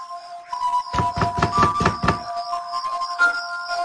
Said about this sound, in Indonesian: Dan tiba-tiba, terdengar ada yang mengetuk triplek yang ada di kamar saat itu. Refleks aku menengok ke arah triplek yang ada tepat di belakangku. Suara ketukannya sangat jelas.